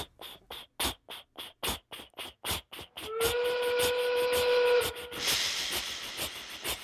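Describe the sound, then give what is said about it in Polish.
A steam locomotive starting up and slowly gathering speed chuffs in a steady rhythm of sharp, hissing exhaust bursts, then a long whistle sounds over loud rushing steam before the quick chuffing carries on. “Gdy kłęby pary wpadną w tłok, ten zaczyna pracować. W prawo i w lewo tłok nabiera tempa.”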